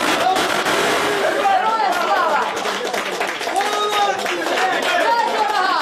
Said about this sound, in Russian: Скорее всего, это окончание пресс-конференции, потому что вот мы слышим аплодисменты в адрес Надежды Савченко.